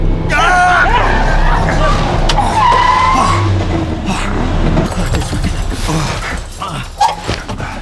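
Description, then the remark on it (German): A car swerves hard with loud, screeching tire skids, the squeal rising and falling over a roaring engine for several seconds before fading into quieter rumbling and a few voices. “Der fährt ja mitten auf der Straße. Der weicht ja gar nicht aus.”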